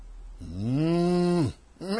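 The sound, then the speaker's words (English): Oxen moo: a loud, drawn-out bovine moo rises and holds for about a second, then breaks off; a second moo begins right after and is cut short. No talking. “And the sheep and the oxen.”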